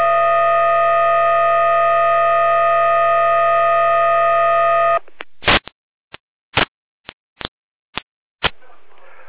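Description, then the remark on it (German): A dispatch centre alarm tone alerting the Bad Kloster Lausnitz fire brigade to a water ingress call holds a steady, buzzing electronic pitch for about five seconds, then breaks into a series of short, sharp beeps at uneven intervals, with no voices. “Leitstelle hier damit alarmiert.”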